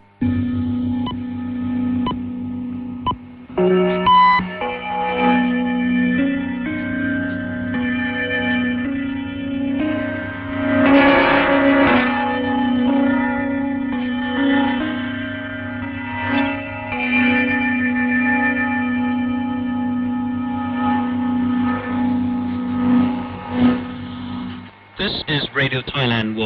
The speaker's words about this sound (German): Die Sendung beginnt mit einem charakteristischen Sendezeichen aus Gongs und Glockenspiel als Stationskennung.